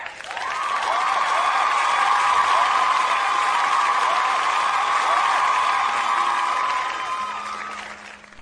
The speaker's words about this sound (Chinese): 来，我们先鼓掌后欣赏，掌声有请。